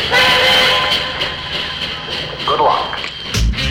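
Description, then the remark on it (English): A European passenger train rolls along the rails with a steady, loud rumble and regular clicking beats, while sustained whining tones ring over the noise throughout. “Imagine that you are a group of strangers sharing a compartment on a European train.”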